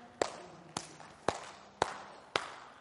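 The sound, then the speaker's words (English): A church audience clapping hands in unison for Jesus: five sharp, evenly spaced claps about half a second apart, forming a steady beat over a faint background murmur, with no talking. “Somebody put a hand together for Jesus. I want to hear you clapping.”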